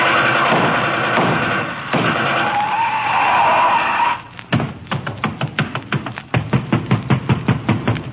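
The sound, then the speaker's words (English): A long screeching rush of noise gives way to loud, rapid pounding on the door of Tess Trueheart's house, roughly a dozen heavy thuds in a quick, insistent rhythm, growing stronger. “Open up before I break the door down.”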